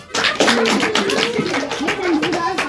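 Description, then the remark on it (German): Audience applause at a hand-puppet play, greeting a woodcutter character: a dense, rapid patter of many hands clapping, steady and fairly loud for under three seconds, with some voices calling out over it. “Applaus!”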